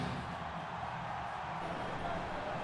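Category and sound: crowd, stadium crowd noise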